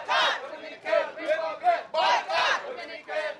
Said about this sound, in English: They're chanting, "Boycott Dominican Republic."